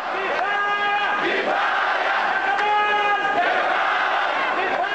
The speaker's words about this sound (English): The demonstrators shouted enough to Mubarak, enough to 24 years of rule. It was the first time Kifaya widened its demonstrations to protest in 14 major Egyptian cities.